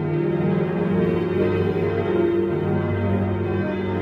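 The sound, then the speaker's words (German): Bells of a Benedictine monastery church ring continuously, their overlapping tones blending into a dense, sustained resonant wash with a steady loudness throughout, no voices present. “Die Glocken vor der Klosterkirche dies und dies läuten immer wieder.”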